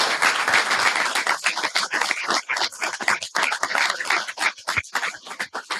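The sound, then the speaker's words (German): An audience applauds steadily for about six seconds as a speaker is called to the front, a dense wash of many hands clapping at an even loudness, with no voices over it. “Herr Teske, bitte kommen Sie nach vorne, Applaus und viel Vergnügen.”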